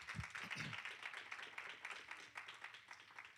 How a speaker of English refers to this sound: I'll give God a bigger hand clap for the text and the topic.